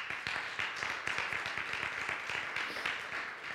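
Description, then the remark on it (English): A crowd claps steadily for a few seconds, many hands producing a dense, bright patter of applause with no voices rising above it. “Give him a hand clap.”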